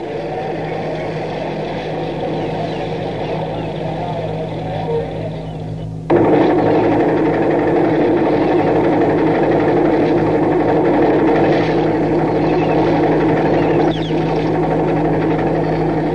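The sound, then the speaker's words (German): The engine of a motor launch belonging to an Italian ship drones steadily with a deep, continuous hum and rough mechanical churn, stepping up abruptly in loudness partway through and then holding that level without pause. “Du weißt doch, das ist ein italienisches Schiff. Und die Barkasse gehört zu dem Schiff.”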